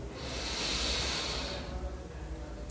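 A single long, deep breath drawn in, the first of three deep breaths in a guided breathing exercise, a soft airy rush lasting about a second and a half before fading into quiet room tone.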